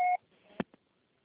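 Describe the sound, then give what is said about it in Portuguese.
A short, loud electronic beep made of two steady tones, an answering machine's final tone signalling the caller to record a message, cuts off into faint hiss, then two quick clicks. “Acorde final, grave sua mensagem.”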